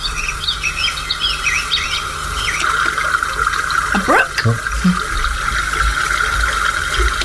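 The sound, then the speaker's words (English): Birdsong in a woodland: quick, warbling chirps trill at the start over a steady insect-like hum and soft ambient rustle, with a brief swooping call midway as the chirping thins out. “Woods. Yeah. Birds.”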